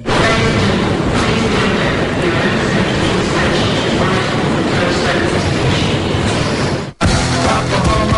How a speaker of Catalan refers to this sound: Aquesta cacofonia que estem escoltant és una megafonia del metro de Londres que acostuma, o fins ara deia, ladies and gentlemen, no?